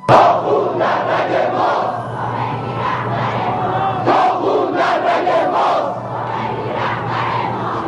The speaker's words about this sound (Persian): تب‌وتاب انقلاب اسلامی و فریاد ملتی به پا خواسته در واپسین روزهای سال 57.